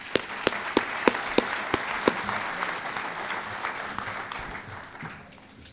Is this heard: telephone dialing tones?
no